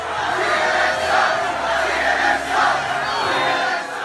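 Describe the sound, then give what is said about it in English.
A large, angry crowd of Trump supporters, men, women and children, at a Trump rally in Tampa roars and jeers at CNN's Jim Acosta, screaming "CNN sucks!", in a dense, sustained wall of shouting voices, with rising and falling surges of rhythmic chanting throughout. “You've probably seen at least one of the tapes posted of an enraged crowd of Trump supporters, men, women, and their children at a Trump rally in Tampa, jeering at CNN's Jim Acosta, giving him the finger and screaming, "CNN sucks!"”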